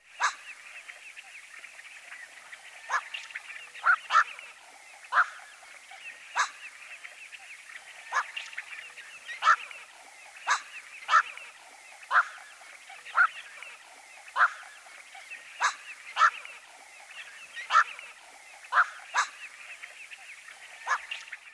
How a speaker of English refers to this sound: Now here's the guttural call of the black-crowned night heron.